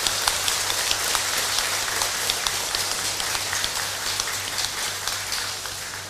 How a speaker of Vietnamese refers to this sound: và đặc biệt là có mặt ngày hôm nay tại Chùa Giác Ngộ, cho một tràng vỗ tay thật lớn để tán dương chung.